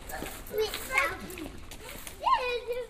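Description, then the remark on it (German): Children playing tag around a small fountain on the Piazza Santo Spirito call and shriek, with bright high-pitched shouts rising over a soft outdoor background that may carry a faint trickle of water. “Kinder spielen um den kleinen Brunnen herum fangen.”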